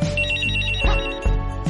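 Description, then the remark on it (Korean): An electronic mobile phone ringtone from a 1990s mobile phone advertisement plays in an exhibition hall on the third floor of the National Museum of Korean Contemporary History in Jongno, Seoul: a bright, repeating melodic pattern, loud, with a couple of short thumping beats partway through and no talking. “박물관 3층에 있는 전시장에서 1990년대 휴대폰 광고가 나오고 있습니다.”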